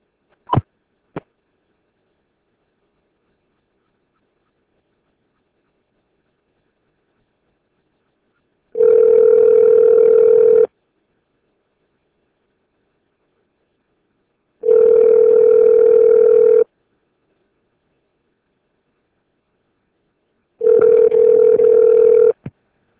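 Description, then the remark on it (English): A telephone ringback tone sounds three times as a phone call is placed, each a steady tone lasting about two seconds with regular pauses between, preceded by a couple of brief clicks. No one speaks. “Now, the only way you can get over that is to constantly repeat the script to yourself, your family members, and independently making phone calls, so just like what we're going to be doing here.”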